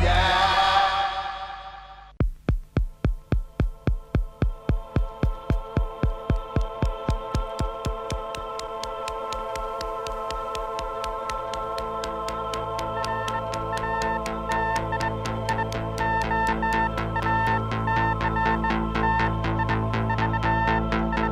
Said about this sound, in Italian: Beep elettronici, pulsazioni, tappeti di suoni spettrali per introdurci in una puntata della Oldies but Goldies decisamente fuori dalla norma.